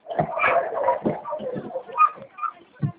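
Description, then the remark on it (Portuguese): Several dogs bark and whimper at a home in irregular, overlapping bursts, with yips and whines tumbling over one another, then a few sharper barks toward the end. “Eu tenho 300 cachorros.”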